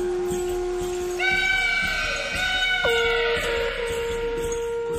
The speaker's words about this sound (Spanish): Hace mucho tiempo atrás, en la tierra del pueblo mapuche, se levantó del mar una enorme serpiente que gritaba.